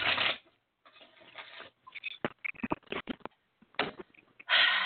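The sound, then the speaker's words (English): A deck of cards being shuffled: loud riffling bursts at the start and end, with a quick run of crisp snapping clicks in between and short pauses. “I'm going to shuffle.”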